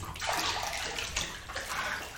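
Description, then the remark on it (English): Steady bathwater swishing and sloshing as a person gets into a bathtub shared with a partner, with a few heavier surges as a body shifts in the tub. It is fairly loud, and nobody speaks. “The water feels just perfect around my body.”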